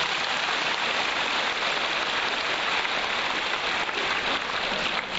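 Steady, dense applause from a crowd, a continuous hiss of many hands clapping at an even level for several seconds with no voices.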